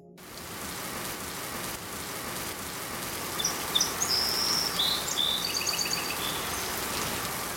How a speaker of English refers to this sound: It's raining.